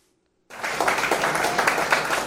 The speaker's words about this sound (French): C'est sous l'applaudissement